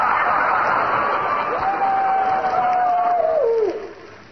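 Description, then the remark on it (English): Coyotes howling: a single long, steady wail holds its pitch for about two seconds, then slides downward and fades, over a constant broad hiss of background noise. “Well, why do those coyotes howl like that? Well, shucks, that's their mating call.”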